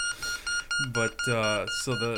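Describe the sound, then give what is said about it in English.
A steady, continuous electronic beep from a beep baseball after its pin is pulled holds a high pitched tone throughout, with a man speaking loudly over it. “So I got the ball here, and I'm going to take the pin out. And so you can tell it's just a constant beep.”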